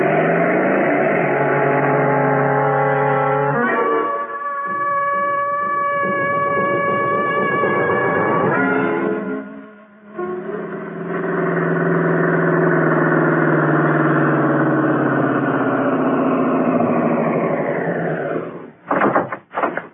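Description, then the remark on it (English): A borrowed motorcycle engine runs loud as it sets off after a car, its droning pitch shifting as it revs, dipping briefly midway, then surging again before winding down and sputtering out at the end. “Lend me your motorcycle.”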